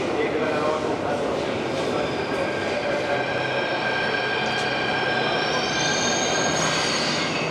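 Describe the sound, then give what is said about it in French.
A Delhi metro train in India runs steadily, its wheels squealing with sustained high-pitched tones over a dense rumbling roar, with faint voices in the background. “Mais oui, le métro de Delhi, on va l'écouter, c'est ça ?”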